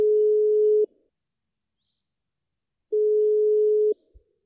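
A telephone dial tone, heard as a receiver is picked up to call the German embassy in London, sounds as two steady, fairly loud low hums, each about a second long, separated by a couple seconds of silence, followed by a soft click.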